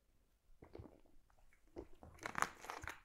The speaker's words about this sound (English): I just need a quick sip of water.